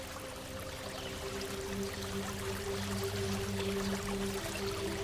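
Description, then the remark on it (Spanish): A small stream of totally clear water flows under a small stone bridge, rushing and gurgling over stones in a steady, continuous babble with no breaks, with a faint low hum running beneath it. “Desde el puente observas el agua correr, sorteando algunas piedras.”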